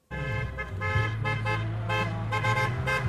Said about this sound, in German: Ein Autofahrer hupt solidarisch.